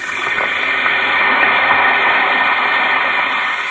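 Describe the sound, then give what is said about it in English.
A steady, loud fizzing hiss of an Alka-Seltzer tablet dissolving in water holds evenly for several seconds with a dense, crackly texture and no voices. “Listen to it fizz.”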